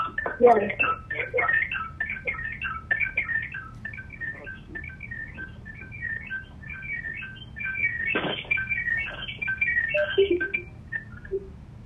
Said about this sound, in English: There's somebody dialed in with their computer and their phone because we hear them dialing. Mm-hmm. I think they hung up.